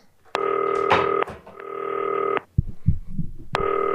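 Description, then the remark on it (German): A telephone call to Norman Teuerkauf of 1. FC Heidenheim rings on the line: a steady, buzzy ringback tone sounds in long repeated bursts, with a few soft clicks and bumps filling one of the gaps between rings. “So, klingelt.”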